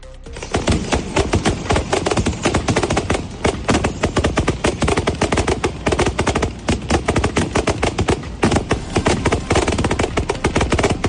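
A fireworks display over the estuary in Huelva, closing the town's Semana Grande festival: rapid, continuous bangs and crackles pile on one another for the whole stretch, loud and dense, with no pauses and no voices.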